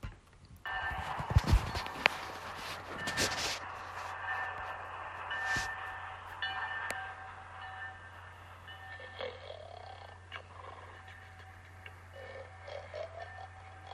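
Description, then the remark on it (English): Busy indoor train station ambience with a steady low hum, a few sharp clunks and knocks near the start, and scattered footsteps and clatter throughout, with no clear speech. “So listen in as they come to the train station and what they decide to do.”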